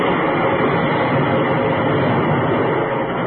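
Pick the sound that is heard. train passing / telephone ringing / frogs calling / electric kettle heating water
train passing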